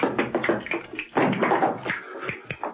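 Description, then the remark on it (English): A pair of castanets clatter in rapid, uneven bursts of sharp wooden clicks, moderately loud, with a brief pause near the middle before the rattling resumes. They are clicked by a man walking into a room from a kitchen. No voices are heard. “John Steed entered the room from the kitchen, clicking a pair of castanets.”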